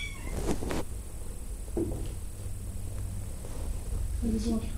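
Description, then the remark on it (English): A cat meows several times in short, separated calls, against a steady hum of background noise with faint voices. “My wife is allergic to cats. Better to keep her outside.”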